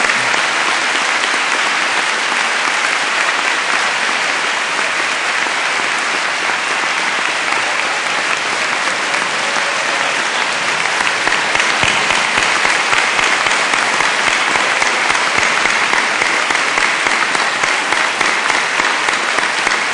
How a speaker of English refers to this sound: Could you join with me in giving them a round of applause?